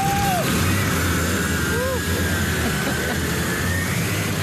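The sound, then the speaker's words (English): The two-stroke engine of a Simson moped, old East German (GDR) technology, runs steadily: a loud, continuous buzzing drone with a rough low rumble that holds even for the whole stretch. “Musik in meinen Ohren ist dieser Sound der Simi.”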